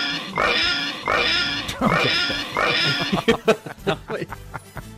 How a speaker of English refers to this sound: She goes, playing the oink squeal like 10 times in a row. I'm like, okay, duly noted. Love the pig squeal.